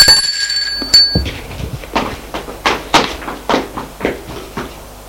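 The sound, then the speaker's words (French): Someone rings at a front door: a doorbell gives a bright, ringing chime lasting about a second, then a steady run of about a dozen sharp knocks or thumps follows at an even pace. No one speaks. “Sonne à la porte.”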